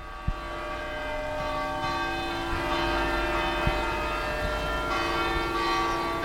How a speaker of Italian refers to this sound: Sono le campane. Bravo, metti il microfono fuori. In questo momento stanno suonando le campane di San Lorenzo, portalo, puntualissime.